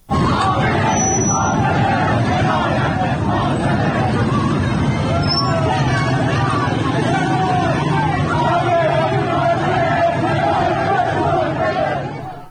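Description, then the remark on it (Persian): A large protest crowd in Nezamabad, Tehran, Iran chants slogans loudly and continuously, many voices merging into a dense, rhythmic roar with shouted peaks, sustained for the whole stretch without pause. “و یا در دو منطقه دیگر تهران، نازی آباد و نظام آباد تهران، ما تجمعهایی داشتیم که فیلم های زیادی از نظام آباد اومد که به یک از شعارهایی که داده میشد گوش میکنیم.”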